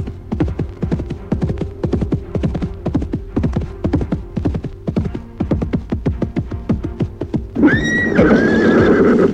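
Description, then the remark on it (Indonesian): Steady, rapid hoofbeats clip-clop for several seconds as a horse is ridden, then the horse lets out a loud, wavering neigh at the end. No one speaks. “lalu menunggang kuda untuk menemui adiknya.”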